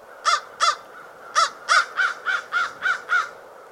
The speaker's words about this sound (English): Common ravens and American crows make distinct sounds. Crows make the classic caw-caw sound, like this.